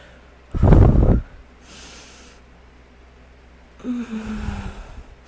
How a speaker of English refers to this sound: I'm gonna move the mic a little bit. Oh God, because I'm breathing into it, and that's pretty gross.